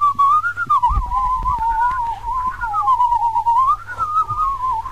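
A person whistles a continuous wavering melody in two voices, fairly loud, with a second higher tone briefly joining in at moments. No one speaks, and low thumps sit underneath.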